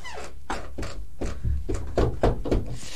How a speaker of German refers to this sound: Kommen Sie erst klopfen.